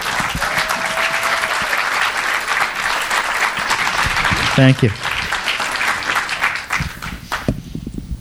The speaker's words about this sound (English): And Brian Selznick again. You can applaud again for Brian Selznick.